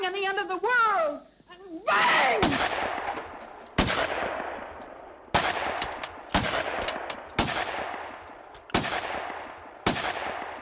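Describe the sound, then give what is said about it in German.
Seven sharp original gunshots fired by Niki de Saint-Phalle at a canvas in 1961, each a loud crack with a ringing decay, spaced a second or two apart. A brief wavering voice-like sound comes before the first shot. “Sie hörten 7 Originalschüsse von Niki de Saint-Phalle auf die Leinwand von 1961.”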